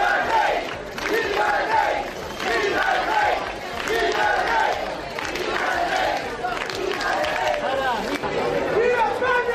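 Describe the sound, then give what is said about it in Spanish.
A crowd of dozens at the Club Náutico in Sanxenxo shouts and cheers to welcome King Juan Carlos, crying 'Viva el Rey!' and 'Viva España!', voices overlapping in loud, rhythmic chants that rise and fall in bursts over continuous excited babble. “Este es parte del recibimiento con gritos de ¡Viva el Rey!, gritos de ¡Viva España!, que decenas de personas le dieron a don Juan Carlos en el Club Náutico de Sanxenxo.”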